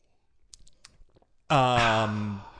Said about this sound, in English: I'm going to take a little sip of water here.